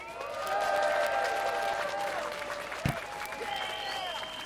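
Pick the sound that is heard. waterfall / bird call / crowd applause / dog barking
crowd applause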